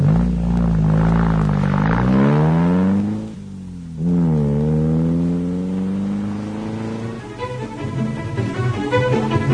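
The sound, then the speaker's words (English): A car engine revs up loudly, its pitch climbing, drops off briefly as it shifts gear, then pulls away again and settles into a steady, slightly rougher drive. “I'll turn the car around.”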